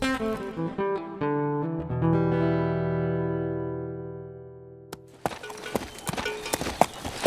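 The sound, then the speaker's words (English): A sustained musical chord rings out and fades, then a horse's hooves clip-clop in a steady, moderately loud rhythm for the last couple of seconds as a rider sets off on a journey. “Tom mounted his horse and began his journey to bargain with the Indians.”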